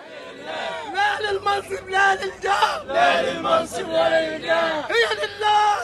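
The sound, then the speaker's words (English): A man in a makeshift clinic in eastern Cairo, Egypt, shouts loudly and repeatedly as he holds up a victim's bloody clothes, crying "Victory is coming" over a dense, agitated crowd of injured people, other voices crying out and clamoring around him in an unbroken wall of noise. “A man yells as he holds up the bloody clothes of one victim.”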